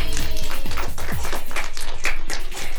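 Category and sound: crowd, applause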